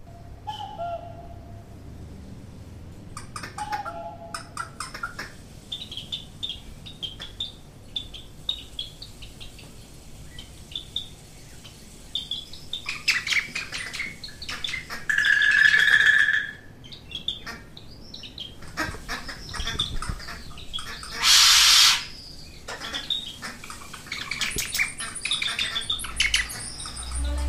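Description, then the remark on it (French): Birds chirp and sing in a lively, continuous chorus, with high trills and repeated calls, a few louder notes standing out, and no talking. “Plus encore, quelle que soit ma fatigue, j'entends un chant d'oiseaux et je me suis immédiatement ressuscité.”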